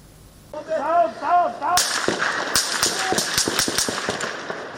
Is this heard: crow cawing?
no